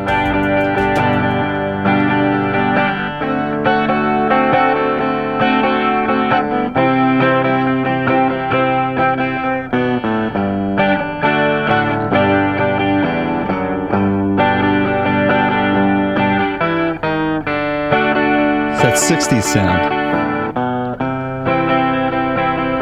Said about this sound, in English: So I've pulled up a video of a chap playing a Rickenbacker 360 12-string.